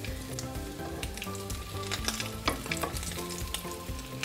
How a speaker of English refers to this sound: the splattering comes from the oil getting inside, touching the meat and the cheese, and it's kind of splattering